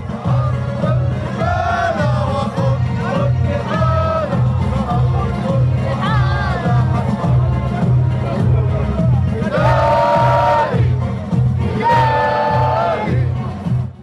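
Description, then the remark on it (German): A large crowd in Ramallah sings the Palestinian national anthem, Biladi, after a speech by Abbas, in loud, sustained unison, the melody rising in swelling phrases over a steady rumbling din of voices. “Und so war die Stimmung nach seiner Rede geradezu euphorisch, als die Menge in die palästinensische Nationalhymne Biladi einstimmte.”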